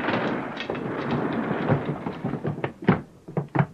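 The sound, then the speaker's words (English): A door is forced open by police breaking it in, with a rough, rumbling crash, followed by several sharp, heavy bangs as it gives way. Loud, with no voices. “If you don't open the door, we're going to break it in.”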